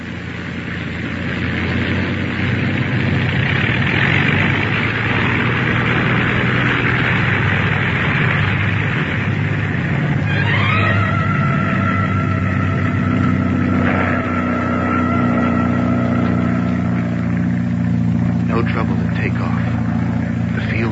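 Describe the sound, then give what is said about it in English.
A propeller airplane engine drones loudly and steadily, then revs up midway with a quick upward sweep in pitch before holding a higher, sustained roar with humming tones. “Rev her up again. We'll listen once more. Well, the engine's doing as well as you can expect in this weather.”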